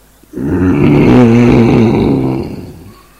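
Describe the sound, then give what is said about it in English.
A person imitates an angry bull roaring up at the clouds in the rain, with one loud, drawn-out, rumbling roar that swells, holds for about two seconds, and fades, with no other sounds around it. “And the bull is so angry, he's looking up at the clouds and roaring.”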